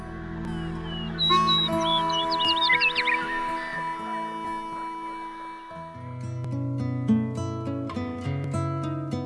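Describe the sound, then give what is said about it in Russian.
A quick flurry of bright sparrow chirps rings out near the start, then fades, set against a steady bed of sustained musical tones that continues to the end. “Я каждый день славлю Творца моим пением. Чик-чирик.”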